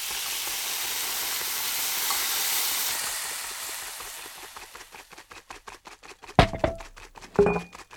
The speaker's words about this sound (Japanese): ええ、生クリームを泡立てているわ。